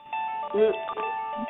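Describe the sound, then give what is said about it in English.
A mobile phone rings with a steady, bright electronic melody of sustained tones, fairly loud and continuous throughout, with a brief low voice sound partway through. “Look at my phone jumping here now.”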